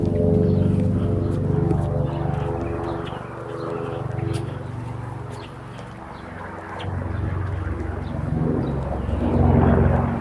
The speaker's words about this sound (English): Air life chopper going by.